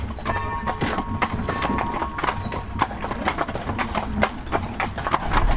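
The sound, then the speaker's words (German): Horse-drawn carriages roll along in Illertissen with a steady, overlapping clip-clop of many hooves, sharp repeated clacks over a low rumble of wheels and a faint jingle of harness. “Unsere Kutschen haben sich in Illertissen aufgeteilt.”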